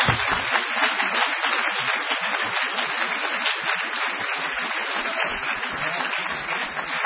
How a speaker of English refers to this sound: Thank you. Thank you. Let's give a round of applause to Dr. Bashan.